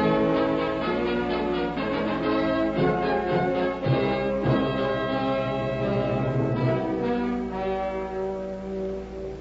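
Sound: doorbell ringing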